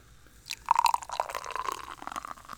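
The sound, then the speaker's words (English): Beer pours into a glass, a steady gurgling, splashing stream with a ringing tone that shifts as the glass fills, lasting a couple of seconds with no talking. “All right, listen for this pour, folks.”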